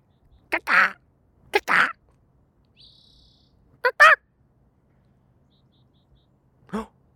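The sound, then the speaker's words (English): A person imitates a bird call with short, hoarse, squawking bursts, mostly in quick pairs, spaced a second or two apart. A faint high-pitched whistle sounds briefly in between. “Oh, I thought that shut him up for a second. I was like, yo, suddenly my bird calling skills.”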